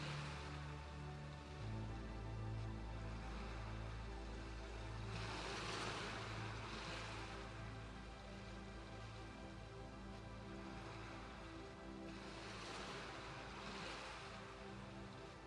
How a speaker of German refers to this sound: Du hörst das Rauschen der Wellen und weit entfernt ein paar Möwen.